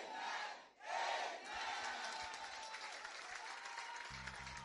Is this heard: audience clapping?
yes